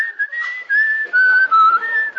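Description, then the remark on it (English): A man whistles a short, wandering melody as he comes by on his way to the store, the clear piping tone sliding up and down between sustained notes. It is fairly loud, with no talking around it. “He came by, you know, typical, trying to keep his spirits up, whistling.”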